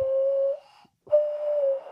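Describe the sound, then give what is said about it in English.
A hollow, breathy whistle blown through cupped hands, with two sustained notes at nearly the same pitch separated by a short pause. It is fairly loud, with no talking. “Like you can get different notes out of it if you lift up different fingers.”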